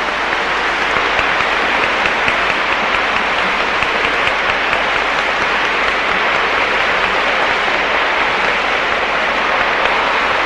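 Sustained audience applause fills the whole stretch, a dense, steady wash of many hands clapping at once, with no break or voices over it.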